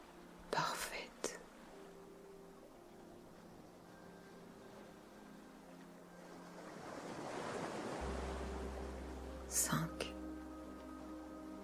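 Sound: ocean waves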